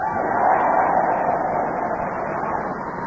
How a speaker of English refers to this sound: And we have a truly enthusiastic Norfolk audience in front of us to cheer us on our way as we begin the show with Tony Hawks.